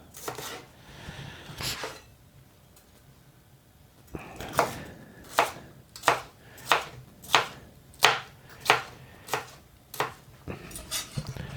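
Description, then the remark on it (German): A knife chops a bell pepper into strips and then cubes on a cutting board, a few scattered cuts at first, then a steady run of sharp, crisp knocks at an even rhythm, with no voices. “So, ich schneide die Paprika erstmal in Streifen.”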